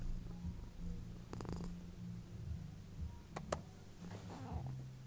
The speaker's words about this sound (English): Oh, she's purring. The mic won't pick it up.